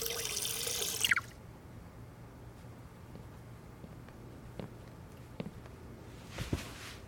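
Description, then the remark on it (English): A tap gushes briefly as a glass fills with water, the pitch rising before the flow cuts off; a few soft drips and clinks follow, then a short splash. “Could I trouble you for a glass of water?”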